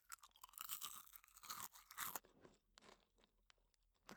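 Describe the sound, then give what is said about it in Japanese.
Crisp, dry crunching of domestically produced roasted crickets being chewed, a rapid irregular series of bright crackles for about two seconds, then softer, sparser chewing clicks and moist mouth sounds. No one speaks. “国産のコオロギは美味しいですね。”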